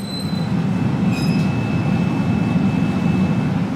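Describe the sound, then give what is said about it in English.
A glass furnace at about 2,300 degrees roars steadily and loudly at Zero Gravity Creations, a garage-turned-hot-glass shop in southeast Baltimore: a dense low rumbling rush with a few thin high whining tones floating above it and no voices. “So this is what 2,300 degrees sounds like.”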